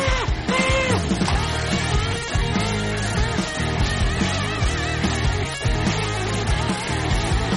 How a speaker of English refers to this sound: Okay, and the crowd goes wild.